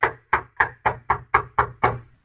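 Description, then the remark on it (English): Eight firm knocks on a door in a steady, fairly quick rhythm, each a sharp resonant thud that fades quickly, heard clearly with no talking. “The five foolish virgins knock.”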